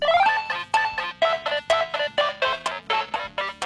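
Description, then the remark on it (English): A telephone rings loudly, sounding a quick electronic trill that repeats in a steady rhythm of about seven or eight short bursts, with no one speaking. “Oh, bye, there's somebody on the phone.”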